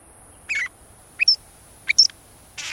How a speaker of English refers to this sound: We're hearing a northern shrike, a robin-sized pale gray bird with jet-black mask and wing bars. This quirky and metallic song, which it sings even in winter, belies a rather bloodthirsty feeding habit.